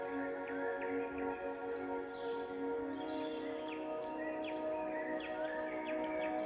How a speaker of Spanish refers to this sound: Escucha las aves, los insectos, el viento, las hojas de los árboles.